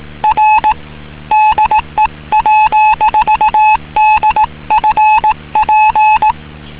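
A Morse code call sign sent as a single steady beeping tone, a brisk run of short and long pulses grouped into letters, loud and clear with no talking.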